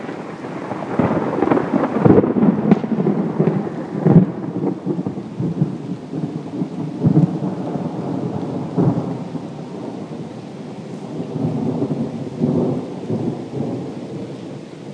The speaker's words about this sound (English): And the approaching storm comes full now.